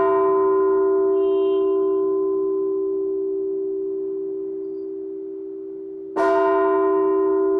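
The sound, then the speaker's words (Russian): A large church bell, rung by a bell-ringer, hums with a long, slowly fading resonance, then is struck again with a bright clang near the end, ringing out loud with no voices. “А звонарь, он должен, зная качество каждого колокола, сделать, чтобы было благозвучно.”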